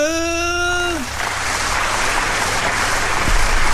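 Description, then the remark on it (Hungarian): A long sustained sung note fades with a downward slide, and dense, steady audience applause rises immediately after it, continuing loudly as a continuous wash of clapping until the end. “Elindult a taps, látod?”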